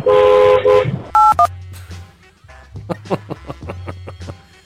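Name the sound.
censor bleep tone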